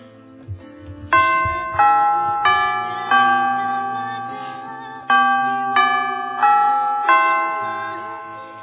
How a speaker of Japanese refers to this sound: とりあえず、チャイムでも鳴らしとくか。